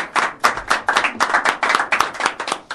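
An audience applauds the shaker player after the song Danny Boy, a dense burst of loud clapping with a steady, almost rhythmic pulse and no voices on top.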